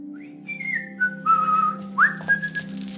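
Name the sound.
person whistling a tune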